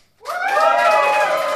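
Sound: audience cheering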